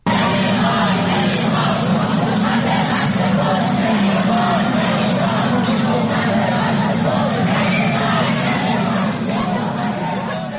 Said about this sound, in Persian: در شامگاه چهارشنبه که معترضان با تعداد قابل توجهی در خیابان‌های مرکزی تجمع کردند و شعارهای ضد حکومتی سر می‌دادند. این برای نخستین بار هست از شروع اعتراض‌ها که از شهری مانند اردکان هم گزارش‌های اعتراض‌ها و ویدیوهای مرتبط با اون منتشر میشه.